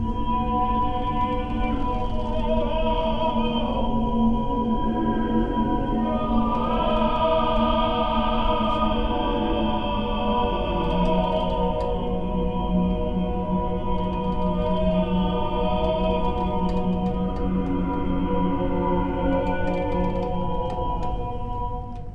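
Several strings sound together in a continuous, droning chord, with a rich stack of harmonic overtones that slowly swell and shift as the bowing or stroking moves back and forth, loud and steady throughout.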